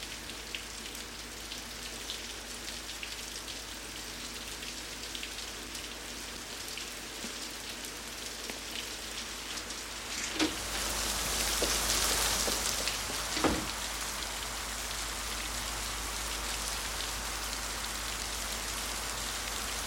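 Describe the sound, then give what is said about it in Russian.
Steady rain falls continuously across a surface, a dense hiss with scattered droplet ticks, swelling louder for a couple of seconds near the middle with a few sharper knocks before settling back. “Из-за дождя вас никто не услышит.”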